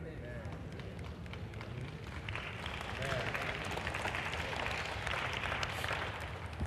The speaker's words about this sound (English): Little lazy clap. Just keep it.